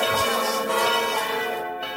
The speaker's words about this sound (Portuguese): Olha o sino da igreja.